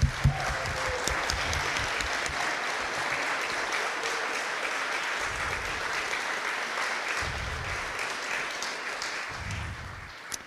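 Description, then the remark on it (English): A crowd applauds steadily for about ten seconds, a dense wash of clapping that holds an even loudness throughout without anyone speaking. “So, yes, I would like some applause.”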